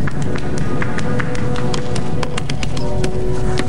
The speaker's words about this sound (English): As he draws on the tablet, she pats her bare feet on the tile floor.